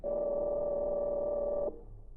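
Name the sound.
telephone being dialed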